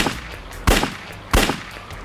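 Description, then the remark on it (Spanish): Two loud, sharp gunshots ring out on a street a little over half a second apart, each with a brief echoing tail, against a low background rumble and no talking. “escuchó un disparo y Campbell cayó hacia adelante”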